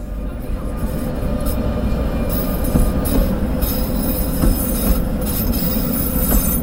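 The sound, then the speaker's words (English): A Prague tram rolling along its rails from Hostivar toward the city centre, a steady, heavy rumble with occasional wheel squeals and faint clicks of the track joints, continuous throughout with no talking. “Take a tram ride from the CNSO's headquarters in Hostivar to Prague city centre and you'll find another busy recording orchestra.”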